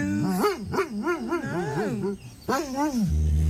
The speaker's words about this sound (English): but we have a dog that threw a temper tantrum because the cat stole her bed. We have audio. What's the matter? Oh, no. There's a cat on your bed.